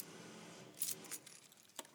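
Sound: car keys jangling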